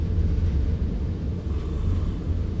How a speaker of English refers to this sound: And the hum of those locomotive engines is music to the ears of Chief Engineer John Hatton.